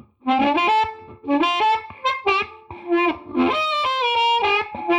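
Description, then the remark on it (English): An electric guitar plays a short melodic phrase of chords and single notes through a modeled 57 Deluxe amp on a multi-effects device, with a slightly gritty, warm amp tone, played alone at a steady, moderate level. “Here we have a basic 57 Deluxe.”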